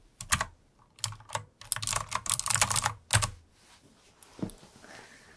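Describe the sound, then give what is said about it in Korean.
Crisp typing on a computer keyboard: bursts of rapid clacking keystrokes with short pauses between, then a few scattered taps trailing off near the end. “뭔가 키보드가 더 잘 눌리는 기분이에요.”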